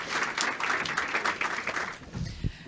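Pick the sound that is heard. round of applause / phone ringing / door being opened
round of applause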